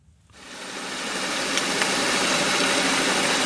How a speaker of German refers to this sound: So klingt es unter Wasser, wenn ein Schiff vorbei pflügt. Das Schraubengeräusch erstickt alles andere.